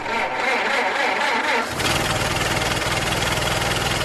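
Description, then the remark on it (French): An old collector's car engine cranks with a whirring starter, catches at about two seconds, and settles into a loud, steady, rumbling idle. “Évitez également de prendre votre voiture de collection si vous êtes fan de vieilles voitures.”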